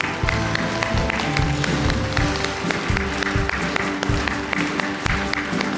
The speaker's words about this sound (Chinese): 来来，为他们鼓掌，他们常年的为教会摆上，真的是我们的英雄在这里，喏，为他们来鼓掌吧。